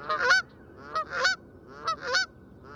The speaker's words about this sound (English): If species look similar, could they have different voices, like the Canada goose's brassy honks?